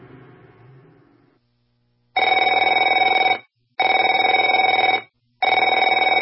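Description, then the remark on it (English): A telephone rings three times in long, even bursts with short gaps between, a loud, steady electronic trill with a bright buzzing tone, following a brief fading tail of other sound. “Afraid to answer it?”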